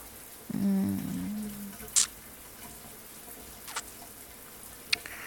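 household object, shower water running

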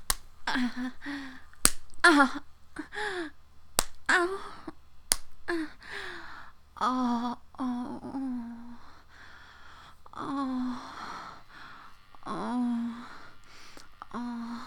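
impact, slaps to the face

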